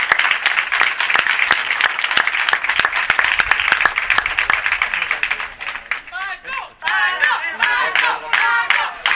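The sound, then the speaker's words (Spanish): A crowd breaks into loud, dense applause for the professionals who helped the speaker, many hands clapping in a steady wash for several seconds, then thinning as voices and some cheering rise over the last few claps. “Ese es el aplauso más fuerte que os pido, lo que me han ayudado.”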